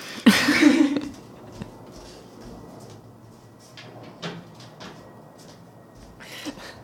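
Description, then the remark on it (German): A window or door slides shut with a loud, scraping rush at the start, followed by a few faint knocks and clicks. “Ganz wichtig ist am Anfang, wenn man Fenster und Tür auf hat, eins von beiden schließen.”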